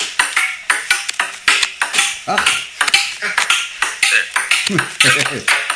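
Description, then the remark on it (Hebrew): A ping pong ball is struck back and forth in a quick, steady rhythm of sharp, bright clicks, with people talking and exclaiming over the rally. “אני נותן לאנשים לשמוע קצת לשחק פינפונג.”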